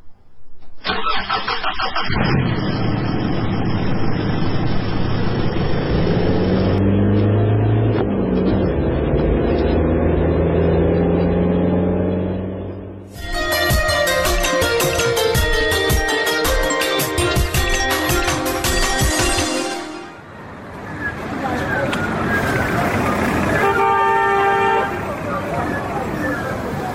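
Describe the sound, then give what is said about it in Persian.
A car engine starts up and rumbles steadily as the vehicle pulls away on a commander's order, followed by loud, sustained blasts of a horn and a few shorter honks near the end. “برو بچه موتر حرکت بده.”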